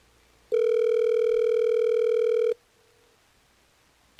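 A single loud, steady ringback tone of a phone call placed by hosts of the radio station Hot 101.5, lasting about two seconds before cutting off into quiet line hiss, followed by a brief click.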